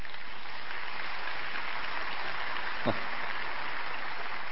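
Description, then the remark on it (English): Light, scattered clapping from an audience at the announcement of a baby's birth, a steady patter of hands that stays fairly soft and even throughout, with no voices rising above it. “Five 5% of you clapped, 95% said, "Not another one."”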